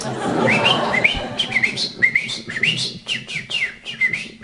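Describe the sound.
A person whistles a rapid, warbling birdsong imitation to train a male canary kept alone in a dark cage, a series of high trills and sliding chirps repeating in quick bursts, mimicking a canary's song.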